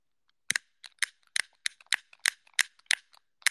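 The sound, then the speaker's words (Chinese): A gas lighter, one of two gas lighters that seem to have run out of gas, clicked again and again without catching, about ten sharp, bright snaps in a fairly steady rhythm, with no flame hiss and no voices. “这两个打火机好像被我折磨的彻底没气了。”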